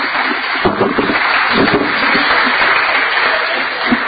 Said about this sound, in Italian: Quindi i nostri complimenti, il nostro applauso a Giorgio Minisini.